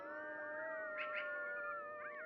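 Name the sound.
wolves howling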